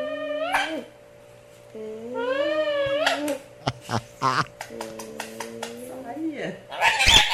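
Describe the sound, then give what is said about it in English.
A parrot's warbling, whistly calls give way to a quick series of sharp smacking kiss sounds, then more sliding calls, as the bird mimics the smooching noise a mom makes when she kisses someone. “But the parrot is now imitating the smooch noise that a mom would make when she kisses you.”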